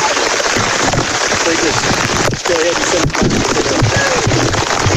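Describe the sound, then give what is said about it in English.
Steady, dense rain hisses loudly throughout during a ball game, with a constant wash of noise and faint voices murmuring underneath at moments. “It's raining.”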